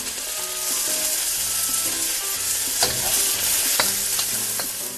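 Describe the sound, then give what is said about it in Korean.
Onions fry in two tablespoons of olive oil in a frying pan with a steady sizzle throughout, broken by a few sharp scrapes and clicks of stirring toward the end. No one speaks. “먼저 프라이팬에 올리브유 두 큰술을 넣고 양파를 볶는다.”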